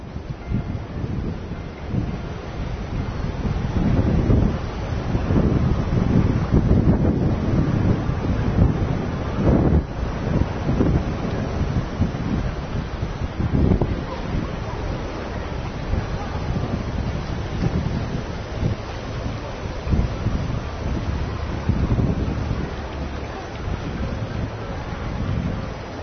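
The Luda Mara river, shallow and fast, rushes steadily down small cascades with whirlpools, a continuous roar of churning water with gusts of wind over the river buffeting the microphone throughout.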